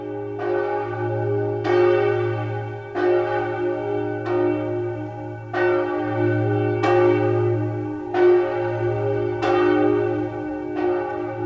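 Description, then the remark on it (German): The Kunigunde bell of Bamberg Cathedral, whose thick body has a hole and which rings every Friday at 3 p.m., tolls repeatedly in a steady rhythm, each deep strike ringing out loud with a long, rich humming resonance that overlaps the next, with no voices. “Jeden Freitag um 3 Uhr nachmittags erklingt vom Dom die Kunigundenglocke, deren dicker Leib ein Loch hat.”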